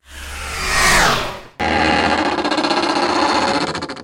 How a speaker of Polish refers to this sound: Kurtyna spada ze złowieszczym świstem.